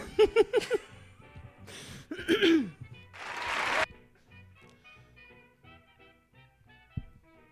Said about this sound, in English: Anyway, that was a really short applause.